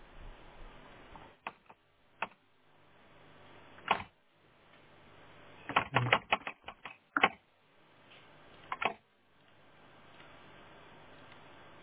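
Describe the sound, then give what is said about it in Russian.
Sharp computer keyboard clicks sound in sparse bursts, with a quick flurry of keystrokes in the middle and a few isolated taps, the last one a firmer press of the Enter key. “Ну, напечатал. Enter.”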